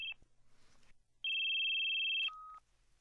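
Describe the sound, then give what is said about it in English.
A cell phone receiving a call gives a brief electronic chirp, then after a pause sounds a loud, steady high tone that drops to a shorter, lower note. Clear, with no voices. “The same legal affairs correspondent gets the same call from her husband, this time on her cell phone.”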